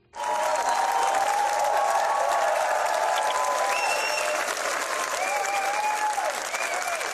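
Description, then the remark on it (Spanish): A large audience applauds loudly and continuously at the Cannes premiere of Carla Simón's film, a dense, steady wash of clapping that starts abruptly and holds throughout, with occasional cheers and whistle-like calls rising above it; the ovation lasted more than 10 minutes. “Más de 10 minutos de ovación.”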